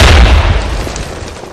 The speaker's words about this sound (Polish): Wyobrażam sobie, jaki to był wstrząs dla mieszkańców lasu, kiedy taki huk bomby tutaj się rozlegał.